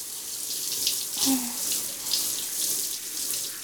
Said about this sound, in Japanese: 今、泡を流しちゃいますからね。ゴシゴシしながら流しますね。